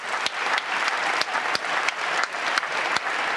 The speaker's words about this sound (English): the audience at La Fenice gave the performers, composer and librettist of Signor Goldoni, a 10-minute standing ovation